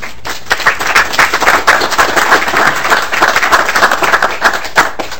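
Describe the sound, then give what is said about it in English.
At an Environment, Energy, and Natural Resources Finance Committee meeting, members break into steady applause welcoming students from the Hubert Humphrey Job Corps, many hands clapping in a dense, crackling wash that holds for about five seconds and then thins out at the end. “We'd like to welcome you and give you a round of applause.”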